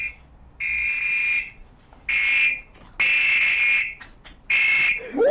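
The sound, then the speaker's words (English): A loud, piercing electronic alarm from a wearable device, set off with its base alarm button as it is put in water, beeps in four long pulses, a sharp high-pitched tone with brief gaps between bursts, with no talking. “Yeah, this is the base button with the alarm. Okay, I'm gonna put it in the water. This is gonna be loud as shit.”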